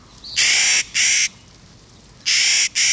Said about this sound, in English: High in the mountains near treeline in the western states, a Clark's nutcracker folds its wings and dives.